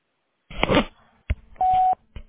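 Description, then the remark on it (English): A single steady answering machine beep before a voicemail message, about a third of a second long, preceded by clicks and handling clatter of a phone line, with a brief click afterward. “Please leave your name and your phone number after the beep.”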